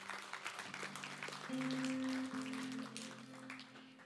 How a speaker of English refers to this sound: Okay, no more applause, because God has brought a mix of light and darkness into our lives through those years.